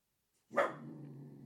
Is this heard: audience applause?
no